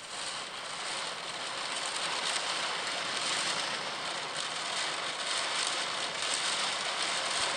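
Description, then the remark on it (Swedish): Heavy rain drums on a roof during a thunderstorm with strong wind, a dense, unbroken hiss, a steady crackling patter that holds at the same loud level throughout, with no voices. “Det regnar så hårt på taket.”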